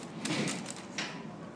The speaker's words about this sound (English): I mean, they're moving chairs and tables.